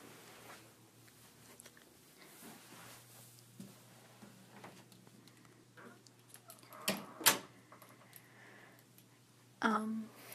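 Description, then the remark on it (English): A classroom door is pushed shut after class, a pair of sharp thuds and a latch click standing out over quiet room tone and a steady low hum, followed by a brief clatter near the end. “Actually, is it okay if I close the door really quick?”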